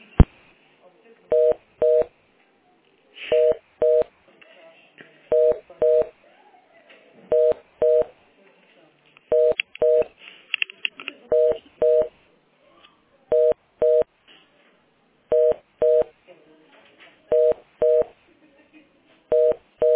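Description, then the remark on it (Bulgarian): A telephone ringing tone plays for an unanswered call from a school to the Pension Fund: paired short mid-pitched beeps repeating about every two seconds, clear and steady, with faint muffled voices talking between the rings. “Не поднимают, да?”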